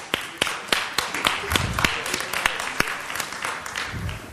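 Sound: audience applause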